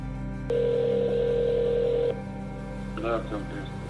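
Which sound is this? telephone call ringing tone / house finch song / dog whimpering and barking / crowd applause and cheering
telephone call ringing tone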